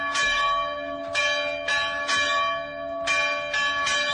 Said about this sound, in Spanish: Es un sonido estremecedor, es el sonido de las campanas de los pueblos cercanos, pueblos cristianos cercanos a Mosul. Vuelven a sonar las campanas cerca de Mosul.